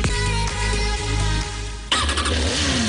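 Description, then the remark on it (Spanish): A motorcycle engine idles with a steady low rumble, then revs sharply near the end, roaring loud with no talking, in an advert for the Motos Lorga motorcycle dealership in A Coruña. “Motos Lorga, descubre tu nuevo concesionario de motos en A Coruña.”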